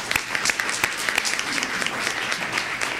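A steady round of applause from an audience at a meeting, many hands clapping in a dense, continuous wash with sharper individual claps popping out, sustained at an even level throughout with no voices.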